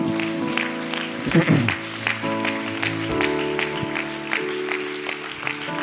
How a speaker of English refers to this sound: Why don't you clap your hands once again?